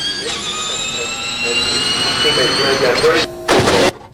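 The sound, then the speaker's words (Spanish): A Formula E electric race car whines past, its high, steady electric tone sweeping slightly upward and swelling louder, with a brief roaring burst before it cuts off abruptly. “Ese es exactamente el ruido en Fórmula E.”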